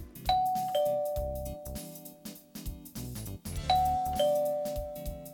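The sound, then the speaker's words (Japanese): A two-note ding-dong intercom doorbell chime at a home in Ishikawa Prefecture, Japan, rings clearly, then repeats once about three seconds later, each bright tone lingering and fading over a steady background of music. “インターホンの音がして玄関に行くと、モニターには見たこともない女性の顔。”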